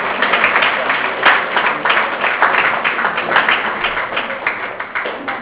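An audience applauds a 30-time blood donor steadily, a dense wash of many hands clapping at a fairly even loudness that carries on for several seconds without pause.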